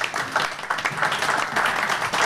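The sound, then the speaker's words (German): An audience applauds the people of local radio stations, a dense steady patter of many hands clapping at once with fairly even loudness throughout and no voices over it. “Also Applaus für Sie alle.”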